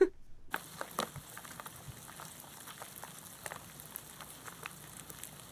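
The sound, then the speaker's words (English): Flesh-eating beetles feeding on an owl carcass: a steady, dense mass of tiny crackling clicks and scratches, like faint sizzling, continuing without a break and with no voices. “We actually have a sample of how they sound. working on an owl carcass, a never-before-heard performance by the ….”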